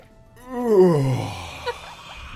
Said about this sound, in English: You're going to make all of us yawn now.